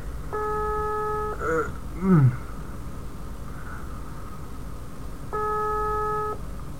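A phone ringback tone from an outgoing call to a friend purrs twice at 11 o'clock, each steady electronic ring lasting about a second with a long silent pause between, unanswered; a brief murmur of voice sounds softly in the gap.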